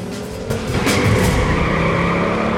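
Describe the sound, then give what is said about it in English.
A car engine revs hard and roars away through a darkened underpass, tires briefly squealing as it accelerates, loud with a steady rising drone and no voices. “Jean growls the car into life and hurtles through a darkened underpass”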